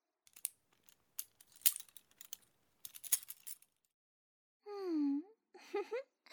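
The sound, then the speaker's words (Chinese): Keys jangle and clink in several quick, scattered bursts, metallic and crisp, then go quiet before a brief voiced sound follows. “好了，这是你下面的钥匙，自己打开吧。”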